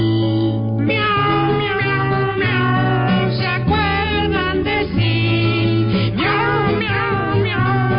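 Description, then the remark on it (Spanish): Sung, drawn-out meows with gliding pitch repeat over a steady musical accompaniment, a voice imitating a cat rather than a real animal, loud throughout. “Porque miau, en tu miau, y yo miau, pues me acuerdo de ti.”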